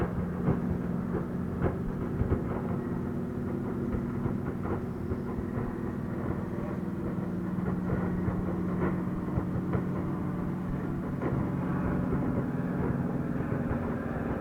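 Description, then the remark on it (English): A light observation airplane drones overhead, its low, steady engine hum holding at a constant level throughout, with a faint rumbling texture and no voices. “There's a light observation airplane up above us.”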